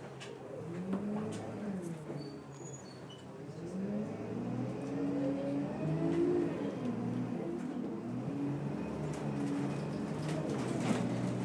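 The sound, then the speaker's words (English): A vehicle engine idles at traffic lights with a steady low rumble and a hum that wavers slightly in pitch, running continuously with no talking. “I understand now why everybody got off at the last stop, because we've been sitting at some traffic lights or something for what feels like forever.”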